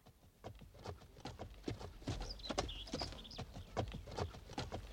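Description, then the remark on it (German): Steady clip-clop of a mare's hooves at a brisk, even pace as she is ridden on a warm summer evening, clear, with faint birds chirping high in the background. “Er setzte sie auf die Stute und sie durfte eine Stunde reiten.”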